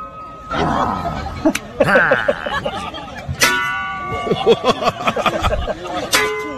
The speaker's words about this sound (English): Ah. All right, so this is actually at a Renaissance fair. Oh, then it's knights. Two guys dressed up as knights doing a pan slapping contest. Mm. They're sitting on a plank facing one another, and they take turns hitting each other in the helmet